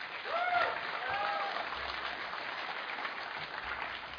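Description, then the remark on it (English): A crowd applauds steadily, a dense wash of clapping with a few whoops and cheers rising near the start before the applause carries on evenly. “You've got a marvelous cheer group here, haven't you?”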